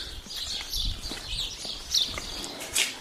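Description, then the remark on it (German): Birds sing during the 'Lübsche Verführung' city tour in a steady stream of high, bright chirps and trills, with a few louder bursts standing out, over faint low knocking like footsteps and soft background rumble. “Hört ihr die Vögel?”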